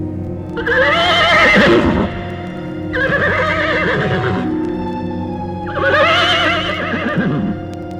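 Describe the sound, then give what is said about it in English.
A horse whinnies three times in a row, loud, each neigh a long shrill quavering cry separated by brief pauses, with no voices present. “And as the legend goes, it is on the darkest, gloomiest nights of the year that the soldier's headless ghost can be seen on his mighty horse stalking the hollow in search of his head.”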